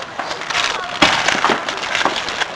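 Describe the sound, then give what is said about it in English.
A string of firecrackers pops in a dense, rapid crackle, with a louder burst about a second in, then continues in sharp overlapping snaps until the end. “What are those crackers?”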